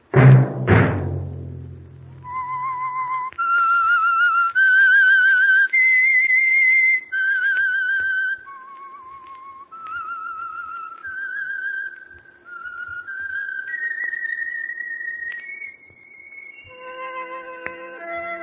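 whistled theme tune

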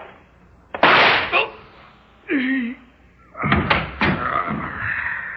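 door opening or closing

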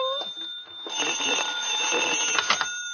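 telephone ringing

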